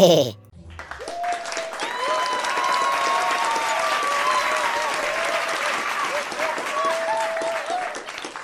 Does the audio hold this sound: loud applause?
yes